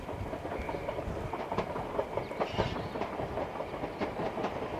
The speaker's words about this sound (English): Sorry about the trains. It's crazy.